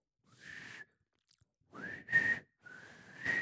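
Three weak, breathy whistle attempts, each a thin rising tone around a steady pitch mixed with lots of airy hiss, separated by short pauses; fairly quiet, with no talking.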